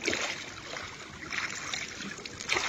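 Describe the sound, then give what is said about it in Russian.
A woman standing in the water pushes a small boat off from the shore, with water sloshing and splashing steadily around the hull for a few seconds, fairly loud, with no voices. “Елена вошла в воду так, что намочила край туники и оттолкнула ладью от берега”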